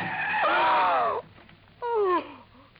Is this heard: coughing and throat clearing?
no